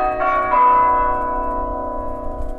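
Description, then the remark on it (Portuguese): The two church tower bells of the Igreja Matriz in Seixo do Coa, beside a tower swing, chime a slow melody, Ave Maria. Their struck tones ring out clearly and linger as they fade, with a low outdoor rumble underneath and no voices. “Este é um baloiço com direito a sino. Pois, tem a música a cantar Ave Maria.”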